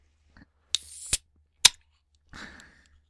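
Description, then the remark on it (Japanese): The pull-tab of a can of mixed-fruit-flavoured alcoholic drink (6% alcohol) is worked open: a faint tick, a hissy burst ending in a sharp crack, another crisp snap, then a brief fizzing hiss of escaping gas. No one speaks. “このね、やっぱり缶に入ってるお酒はね、このプルタブを開けた時のカシュっていう音がいいですよね。”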